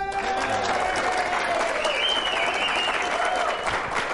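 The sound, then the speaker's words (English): An audience on the Mike McCarthy Show claps to welcome Green Bay Packers head coach Mike McCarthy, a dense, sustained burst of applause with a few faint tonal sounds and murmurs mixed in under the clapping. “We're going to give you double applause because you have a contract extension and it's signed, so please, nice job.”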